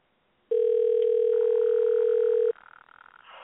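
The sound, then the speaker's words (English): A loud, steady electronic phone tone holds for about two seconds, then cuts off, leaving faint line noise and muffled sounds behind it. No one speaks. “Hey, it's ringing.”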